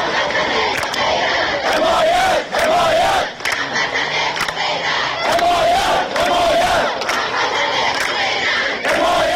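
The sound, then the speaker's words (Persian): A large crowd of protesters in Ahvaz and other cities of Khuzestan province, Iran, gathered in front of the provincial governorate building over water and electricity cuts, chants slogans in unison, loud and continuous, with rhythmic rising shouts repeating every second or two over a dense roar of voices. “مردم این شهرها در شعارهای خود خواستار حمایت مردم سایر شهرها بودند.”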